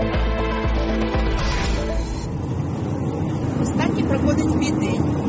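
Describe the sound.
Steady, loud engine rumble from inside a truck cab as a woman drives her truck delivering manufactured goods to shops in Kyiv, a constant low drone with road noise and a brief tonal whine near the start, with voices talking over it.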